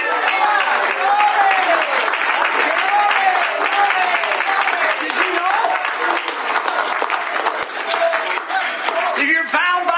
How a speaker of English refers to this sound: Did you know it's instructed in the Bible to clap your hands, all ye people? Yes. Make a joyful noise unto the Lord.